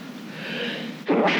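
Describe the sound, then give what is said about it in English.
A single sneeze: a breathy inhale builds for about a second, then a sudden loud, explosive burst of air ends it. No one speaks. “Oh, sorry, it's me sneezing.”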